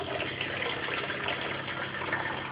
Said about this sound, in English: So I've done the fixer bit, so now I take the top off. Again, I might go a little bit quiet here. Take the top off my Patterson tank. Pour my fixer back into the container because I can use it again.